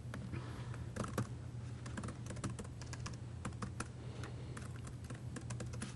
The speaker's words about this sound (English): I think you're the only person I've met that types harder than I do. Okay. Your poor keyboard.